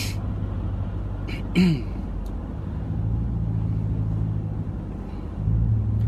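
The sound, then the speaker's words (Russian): Steady low engine rumble from inside a car moving slowly in stop-and-go traffic in a traffic jam, with a few faint clicks and brief muffled sounds, and the hum swelling slightly near the end. “А что в пробке время тратить, да?”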